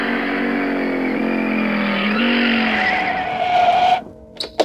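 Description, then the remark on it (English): A car pulls away toward a movie studio with tires screeching and the engine straining, loud for about four seconds, then the noise cuts off abruptly, leaving a few short clattering bursts. “Then he and the man with the yellow hat got into the car to drive to the movie studio.”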